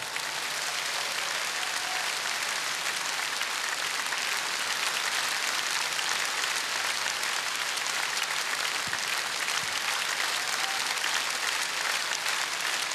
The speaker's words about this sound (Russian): Я знаю, что вы не будете скупиться на аплодисменты. Великий артист, большой наш друг, Вахтанг Кикабидзе!